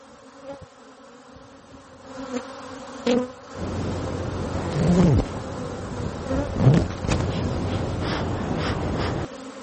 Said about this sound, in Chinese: 在位于纽约第六大道和53街路口的中城希尔顿酒店的屋顶上，一群蜜蜂正在辛勤的劳作。